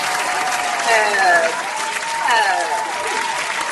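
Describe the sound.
A crowd claps in a steady, dense round of applause lasting several seconds for a nominee for the Ida S. Baker Diversity Award, with excited voices cheering and whooping over the clapping.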